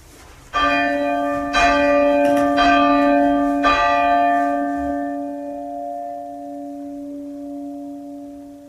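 Church bells hanging downwards chimed gently, each bell kept as still as possible while struck by its clapper, in a slow series of about four clear strikes, with a long, ringing hum that fades gradually afterward. No talking.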